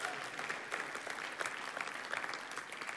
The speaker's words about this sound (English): Give an offering. Clap offering for that.